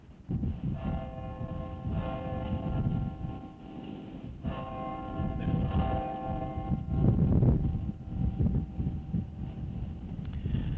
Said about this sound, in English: be sounded, because it will from this time forth sound the hours of the day, and because it is the foundation for all the other bells, let its ringing represent the tones of the other bells and our offering of the complete sound to the glory of God.